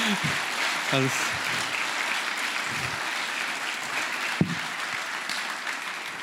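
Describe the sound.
A crowd applauds five performers steadily, a dense wash of many hands clapping at even loudness throughout, with a few brief voices and a sharp single clap or knock cutting through the noise.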